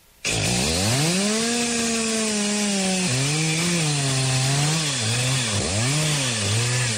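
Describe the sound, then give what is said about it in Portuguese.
A chainsaw snarls to life and runs loud for several seconds, its engine pitch dipping and surging as it bites and revs, with no voices over it. “Motosserra estilo.”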